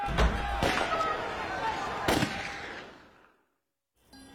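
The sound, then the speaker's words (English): Several sharp, heavy bangs ring out, like a door slamming, with the loudest near the start and another a couple of seconds later, followed by a fading rumble and quiet. “Behind here, there is a door.”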